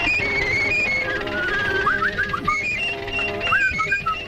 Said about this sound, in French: Ah mais il était muet au début. Au début, oui. Mais il sifflait quand même. C'est le premier Mickey. C'est le premier Mickey quand même.